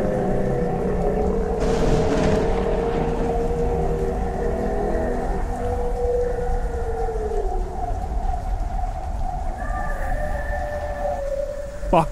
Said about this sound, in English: That sound, the horn blast from earlier, had exploded through the air and vibrated the windows. It was orders of magnitude louder than it was when I'd first heard it, and that meant that it was close.